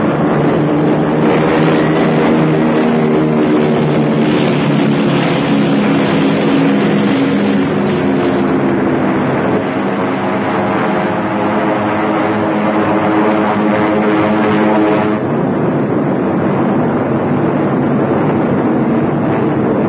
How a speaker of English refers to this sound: As they couldn't reach the city by land, they would send their bombers to blast it from the face of the earth.